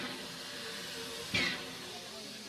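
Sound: steam locomotive hissing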